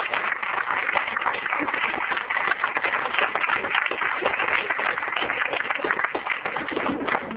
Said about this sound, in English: Let's have a round of applause for those teachers.